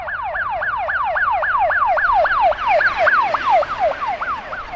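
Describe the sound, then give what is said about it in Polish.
An ambulance siren wails in a fast, repeating rising-and-falling yelp, loud, cycling steadily for several seconds over a low background of road noise, heard 2 kilometres before the finish of a half-marathon race. No one speaks. “Zamiast aplauzu widowni oklaskującej wbiegającego na metę zawodnika, 2 kilometry przed metą usłyszeliśmy niepokojący sygnał.”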